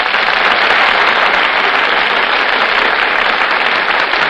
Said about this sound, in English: You just can't help applauding when Fred McMurray and Carol Lombard make their entrances on the Gulf Theater stage.